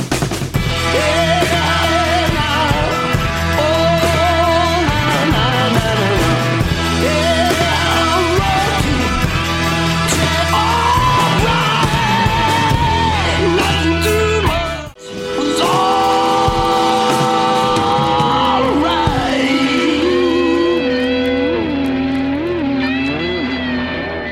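Loud, dense experimental blues rock with heavily distorted, grinding guitars and raw shouted vocals, playing continuously apart from a brief cut midway before the song crashes back in.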